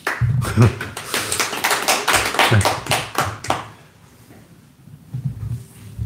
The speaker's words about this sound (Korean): 우리가 얻을 만한 의석은 얻고 플러스 10석을 했다. 잘했으니까 일단 박수.